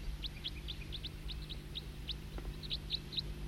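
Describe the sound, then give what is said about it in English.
A bird calls over and over with short, high "toop" notes, roughly three or four a second in a steady rhythm, above a low constant rumble with no voices. “Start recording the tooping again. Same bird.”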